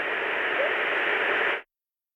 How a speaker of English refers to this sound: And part of that frequency range of the white noise is going to be covering that up. And so this is known as masking, where one sound, if it's in a similar frequency range to another sound, it will cover that sound up.